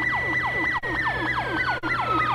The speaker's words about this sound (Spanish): Una ambulancia recorre las calles de la ciudad.